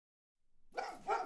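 Two sharp, fairly loud dog barks in quick succession, following a brief silence, with no one talking.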